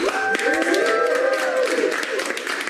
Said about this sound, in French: Des applaudissements pour une première vaccination dans un hôpital du Queens à New York, quartier profondément meurtri par la première vague de l'épidémie au printemps.